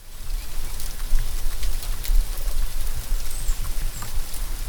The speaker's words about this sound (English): This week, the sound of sleet falling in Blacksburg, Virginia in February 2018 opens our annual episode on winter preparedness.